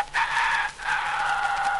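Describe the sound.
A human voice imitates a rooster's crow, the hen's mate answering her, as one of the animal cries recalled from a visit to the Jardin des Plantes, in two drawn-out, nasal calls, the second longer than the first, loud with no other sound.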